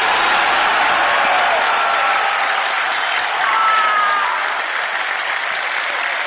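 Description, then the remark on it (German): A large crowd of nearly 10,000 Hamburger SV club members claps steadily and cheers on 25 May 2014 as a motion to spin off professional football passes with an 86.9% majority, a dense, loud wash of applause with a few whoops rising above it, lasting throughout with a slight swell in the middle. “Ich war einer von den knapp 10.000 Mitgliedern, die ihr da im Hintergrund gerade habt jubeln und klatschen gehört, denn ich war natürlich da.”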